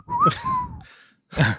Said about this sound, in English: Was that a pretty good Andy Griffith whistle, or was it not?